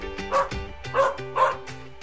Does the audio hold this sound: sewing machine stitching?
no